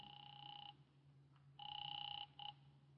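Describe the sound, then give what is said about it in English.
A telephone rings through the line in electronic bursts as a call is placed to a man's home number: one long ring, a pause, then another long ring followed by a short clipped one, heard over a low steady hum. “I tried his home.”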